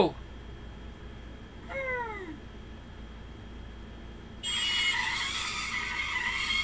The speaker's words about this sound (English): I hear the sound of a car's engine. It's clearly heading this way.